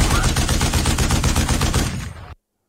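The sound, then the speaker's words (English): Loud pyrotechnic concussion blasts at a live concert rattle off in a rapid, continuous burst for about two seconds, then cut off abruptly into silence. “It was actually a pyrotechnic concussion, which creates a loud boom, which he's been using in his concert for years.”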